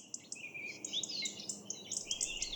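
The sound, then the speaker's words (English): Several birds chirp and warble continuously, with quick overlapping high-pitched tweets and trills, over a faint low background hiss and no talking. “I love birds, but often their cheerful chirping and warbling can be cut short by noise pollution.”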